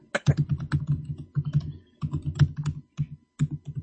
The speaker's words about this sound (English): It's I heard all that keyboard tapping. It sounded like you were looking it up.